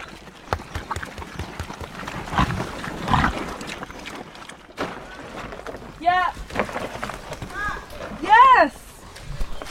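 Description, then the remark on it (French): Pigs let out a few short grunting squeals, two distinct bursts in the second half, with faint voices and rustling in the background. “Quand ils ont fini de manger, si tu restes avec et tu les caresses, tu les crottes des fois, ils s'allongent. Ils font de petits bruits.”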